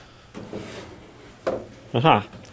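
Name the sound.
wooden drawer being opened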